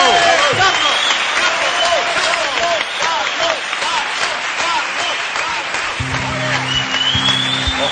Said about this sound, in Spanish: Por eso les pido, señores y señores, un fuerte aplauso para ….